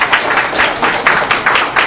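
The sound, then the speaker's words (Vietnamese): A crowd applauds steadily, many hands clapping at once in a dense, irregular patter that holds at moderate loudness throughout, with no voices standing out; an audience applauding to congratulate those whose saint's name is Joseph. “Rồi chúng ta cho một tràng pháo tay thật to để chúc mừng những Giu-se.”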